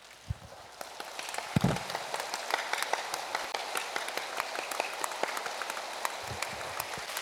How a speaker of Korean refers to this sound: 그러나 온 땅의 큰 왕이시기에 찬양을 그렇게 하라고 하는데 손바닥을 치며 찬양하는 겁니다. 자, 손바닥 한번 쳐봅니다. 편하게 박수.